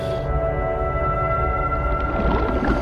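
A dolphin vocalizes underwater in murky water close to a boat, recorded by an underwater camera towed behind the boat, in steady, sustained tonal whistles that hold for the whole stretch, loud and close, over a low rumbling background with no talking.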